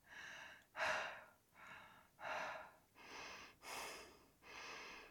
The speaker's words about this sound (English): I'm breathing so fast and I'm exhausted waiting for somebody to say something.